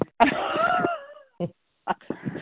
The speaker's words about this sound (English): Somebody's running. Sounds like they're running, maybe. I hear them. Panting.